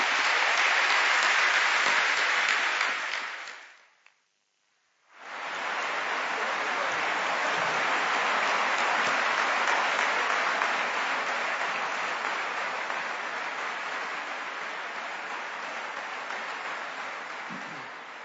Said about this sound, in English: So let's applaud